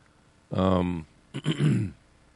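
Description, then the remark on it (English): A man clears his throat twice in quick succession, fairly loud, each a rough, voiced rasp lasting about half a second, with quiet before and after. “I'm sorry to be clearing my throat here”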